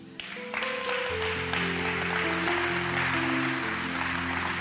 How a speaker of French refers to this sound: Je crois vraiment qu'on peut applaudir un peu plus le Seigneur et tout le monde pour ça, parce que c'est ce que Dieu veut qu'on puisse faire.